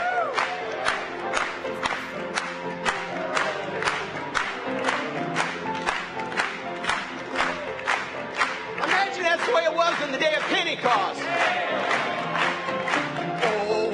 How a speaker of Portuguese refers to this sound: Vamos bater palmas mais uma vez.